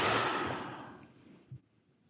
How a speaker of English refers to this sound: Heavy breathing for effect. Mm-hmm. Dramatic effect.